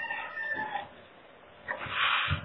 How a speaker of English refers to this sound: Are those chickens I hear in the background somewhere? Yes, there are. That's me. Sorry. I'll mute.